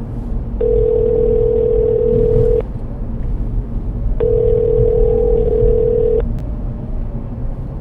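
A phone ringback tone purrs twice after a voice-commanded call is placed, each steady mid-pitched ring lasting about two seconds with a pause between, over a constant low engine-like rumble.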